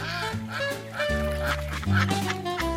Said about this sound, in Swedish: Bredvid hästhagen ligger en damm. Där simmar en flock gäss och ankor. Barnen, Brummelisa och Nina Kanin går dit. När de kommer närmare börjar ankorna och gässen kvacka och kommer nyfiket simmande.